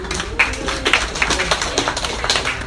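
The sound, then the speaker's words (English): An audience claps for a few seconds, many hands making a dense, uneven patter of sharp smacks at moderate loudness, with no clear voices over it. “Clap it up if you think animals are smart.”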